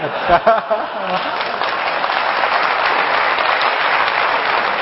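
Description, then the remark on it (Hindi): A voice speaks for a moment before an audience breaks into loud, dense applause that continues steadily, a continuous wash of many hands clapping at once. “अच्छा, आज आपको और एक काम सिखाता हूं, ताली बजाने के बदले दूसरा काम, वह है फील करना।”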